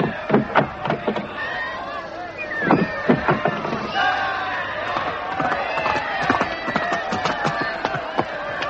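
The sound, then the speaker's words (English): A large crowd of subjects lining the route from Oxford to London cheers and shouts continuously as a royal coach arrives, many voices overlapping, some crying for Raleigh, with sharp clattering knocks scattered through the din. “From Oxford, the whole route is lined with cheering subjects.”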